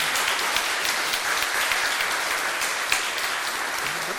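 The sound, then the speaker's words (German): A church audience applauds steadily for a member who has just affirmed a role in the presbytery and is given flowers. Many hands make a dense, continuous patter at an even loudness for several seconds, with no voices standing out. “Auch für dich haben wir Blumen und ich glaube auch einen kleinen Applaus oder einen großen.”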